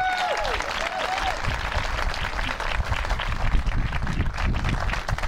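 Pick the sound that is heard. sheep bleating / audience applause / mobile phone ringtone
audience applause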